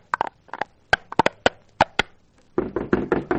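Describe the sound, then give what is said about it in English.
Loud, insistent pounding on the door of a house: about ten sharp knocks in uneven bursts, then a quick flurry of faster, rattling bangs. No voices. “He came to the first house and pounded on the door.”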